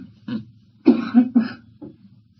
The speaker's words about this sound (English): I expect this talk I'm giving here this morning is going to re-stimulate a few coughs. You know, I never worry too much about coughs.